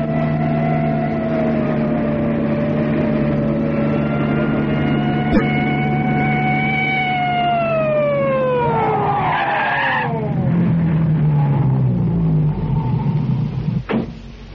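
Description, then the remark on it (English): A police car engine rumbles with a steady high whine that slides down in pitch as the car slows and stops, followed by a brief sharp knock near the end. “Anyway, we can't run away from a police car and a station wagon.”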